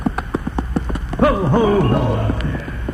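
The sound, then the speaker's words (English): Horse hooves clip-clop in a steady rhythm, and partway through a wavering, voice-like tone rises and falls over the continuing hoofbeats. “And then just hang there and have the horse go out from under you.”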